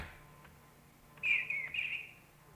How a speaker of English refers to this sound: A long-time listener to The Nature of Things would know that I have, among many, an obsession with the song of birds.